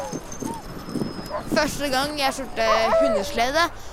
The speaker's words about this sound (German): Alle helfen mit, den Hunden das Geschirr anzulegen.